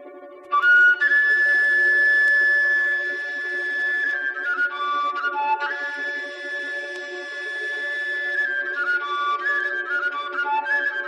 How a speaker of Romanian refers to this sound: că doina, ca de altfel mai toate formele cântecului românesc, s-a născut chiar din fluier, instrumentul exclusiv de formație românească, care a fost preluat cu tot cu denumirea lui de multe dintre popoarele ce împrejmuiesc spațiul cultural românesc.